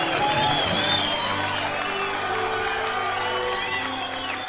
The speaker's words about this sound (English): Ladies and gentlemen, at this time, I would like to ask everyone to please rise and help me give a thunderous applause to the new Mr. and Mrs.